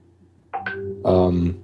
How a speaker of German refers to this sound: Entschuldigung, ich weiß nicht, ob man das gerade gehört hat, die Benachrichtigung. Ja, habe ich gehört. Sorry, ich habe es gerade ausgestellt.